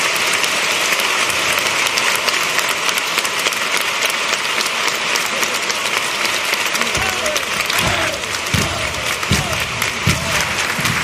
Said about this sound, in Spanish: Bien, respuesta a este tango muy aplaudido.